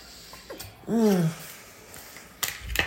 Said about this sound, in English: I just need to have a drink of water.